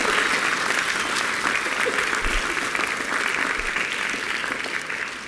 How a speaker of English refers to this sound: Let's give Michael a round of applause, shall we? He did a great job.